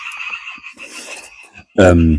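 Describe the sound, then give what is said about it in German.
A steady chorus of frogs croaking in the background, thin and continuous, then a sudden loud, deep voiced burst near the end. “Frösche wieder.”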